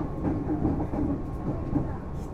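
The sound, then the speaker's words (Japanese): A train bound for Shin-Kiba, next stop Oimachi, rumbles steadily along the rails, a dense low-frequency roar with faint rhythmic clatter, heard from inside the carriage at moderate volume with no one speaking. “ご乗車ありがとうございます。この電車は新木場行きです。”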